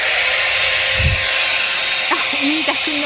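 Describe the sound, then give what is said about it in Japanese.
A small, very light hair dryer shaped like a karaoke microphone runs while its air volume is tested, blowing a steady, loud rush of strong air that fills the whole clip, with brief voices and a low thump underneath. “飯田君の髪が乱れるぐらいの強風。”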